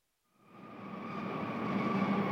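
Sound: train arriving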